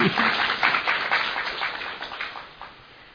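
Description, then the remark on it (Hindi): An audience claps steadily in a dense, crackling wash of many hands. The applause holds fairly loud for a few seconds, then gradually thins and fades toward the end. “हाँ, फिर से पहले स्वागत की ताली, अभी भाग्य की ताली है।”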